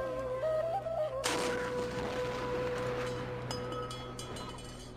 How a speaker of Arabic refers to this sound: يلا يا عيال بنسير جدل مدفع، وشلوا تمركم ومايكم عسب تفطرون من يذن. أبويا أخاف من صوت المدفع، عادي أسد دنيا؟